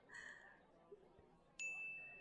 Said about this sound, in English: Oh, duh. The bell, yeah.